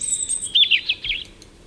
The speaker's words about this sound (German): Klingt für Berliner Ohren völlig nach Idylle, aber in Potsdam sorgen Rotkehlchen, die wir hier gerade zwitschern hören, dafür, dass die Bewohner eines bestimmten Häuserblocks nicht mehr schlafen können.